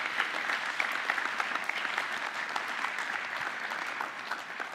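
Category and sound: crowd, audience clapping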